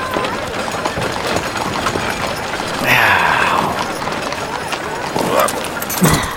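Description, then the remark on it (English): Horse hooves clip-clop at a steady rhythm as a carriage rolls along, with rattling and creaking mechanical noise underneath and a brief louder swell partway through. “Abernathy sat back in his comfortable carriage seat and pulled his hat more snugly onto his head.”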